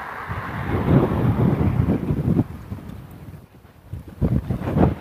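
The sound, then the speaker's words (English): Loud, sharp, gusty wind buffets the microphone outdoors as someone walks past a park after stepping out of the lee of trees, a rumbling low roar that surges, briefly drops away, then slams back in strong bursts near the end. No one speaks. “Okay, now that's a sharp wind.”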